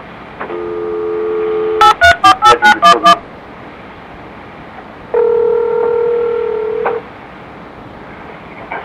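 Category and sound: signal or alarm, telephone keypad tones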